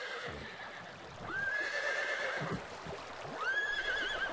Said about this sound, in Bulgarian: Кончето беше избягало далеч, настръхнало гледаше страшната сцена и цвилеше.